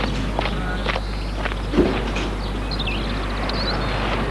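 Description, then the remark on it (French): Several unhurried footsteps of a chauffeur walking toward a car crunch across outdoor ground over a steady low hum, followed by a faint high-pitched chirp in the background; no one speaks. “Le chauffeur va vers la voiture.”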